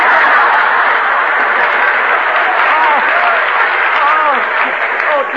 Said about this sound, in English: Hey, Confucius, clap hands.